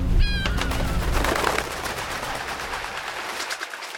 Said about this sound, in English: I mean, it's not only close to water, it also has a harbor with small boats and a lighthouse and definitely the seabirds.